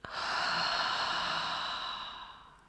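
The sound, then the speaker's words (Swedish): A long, deep exhale through the mouth after a deep breath in through the nose, a soft airy whoosh lasting a couple of seconds that gradually fades out. Fairly quiet, with no talking. “Och andas ut genom munnen.”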